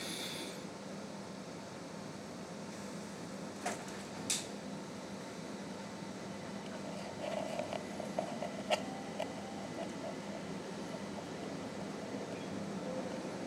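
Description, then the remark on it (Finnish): A steady, rumbling interior of a local tunnelbana metro carriage with a constant low roar, punctuated by a few brief metallic clicks and squeaks, with no one talking. “Kuullaan, minkälainen äänimaisema on paikallisessa metrossa, joka nyt onkin täällä tunnelbaana.”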